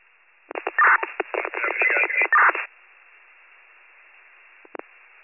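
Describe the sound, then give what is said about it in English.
A burst of crackly, band-limited radio noise with choppy garbled bursts, then a faint steady hiss and a short click near the end as the channel closes. “Static.”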